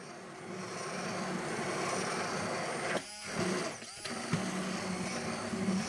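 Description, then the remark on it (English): A steady motor whir of an immersion blender emulsifying mayonnaise in a jar it fits snugly, slowly incorporating the oil into the other ingredients, with the pitch dipping and rising briefly twice as it works through the thick mixture. No voices. “the fact that you're using an immersion blender that fits perfectly and kind of encapsulates those ingredients first is that the oil is able to slowly be incorporated to the other ingredients.”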